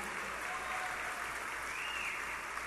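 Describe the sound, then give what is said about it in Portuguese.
Steady audience applause, a dense wash of many hands clapping at an even level throughout, with no one speaking over it. “Portanto, eu sei que eu tenho a mania de pedir muita salva de palmas,”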